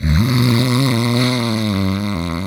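A single long, loud snore from someone sleeping in the middle of a forest, drawn out for a couple of seconds with a low, buzzing tone that wavers slightly in pitch, with no talking.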